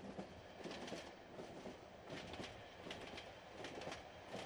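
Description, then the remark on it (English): A train rumbles steadily along the tracks, a dense, continuous roar with recurring clacks from the wheels passing over rail joints, with no voices. “Does this look like a normal train to you?”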